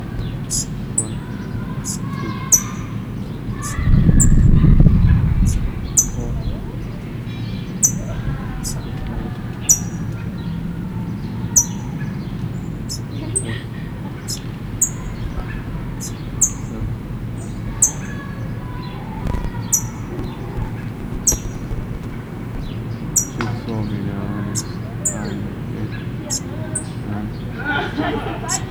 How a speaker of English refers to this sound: It's now still begging. Parent is up in the tree chipping. Pause. 8:50. Parrot has come down because I've come close to the chick. The chick has started playing.